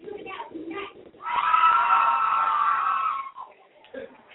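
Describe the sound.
A loud, sustained roar of a crowd cheering and screaming at a football game involving the Showgirls swells after a moment of talk, holding steady for about two seconds before fading back under voices.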